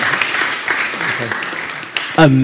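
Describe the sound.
A crowd applauds steadily, a dense wash of many hands clapping that holds for about two seconds before a voice begins speaking over the fading clapping.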